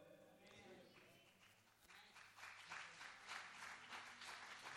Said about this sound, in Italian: Più applaudite e meno parlo, quindi se volete fare un applauso di un'ora e mezzo, ce la caviamo così, insomma, sarebbe meraviglioso per voi.